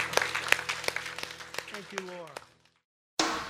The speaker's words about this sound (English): Hey, can we give the Lord an applause for what you're doing in our lives? Thank you, Lord, that you make us free.